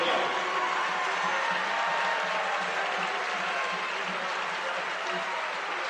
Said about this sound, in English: And Yoder gets a big hand from the Viking crowd.